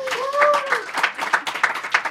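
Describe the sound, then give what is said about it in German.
A crowd applauds with dense, steady clapping that stays fairly loud throughout, while a rising and falling whoop or cheer rings out near the start. “Und vielleicht könnten wir den Applaus noch einmal hören fürs Mikrofon.”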